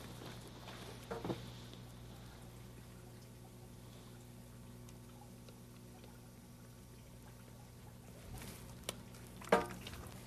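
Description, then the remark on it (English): Cold tap water runs steadily into a drink container through the end that is drunk out of, a soft continuous pouring hiss with a faint hum underneath and a couple of brief clinks near the start and end. “What we'll do is put the cold water in the other end.”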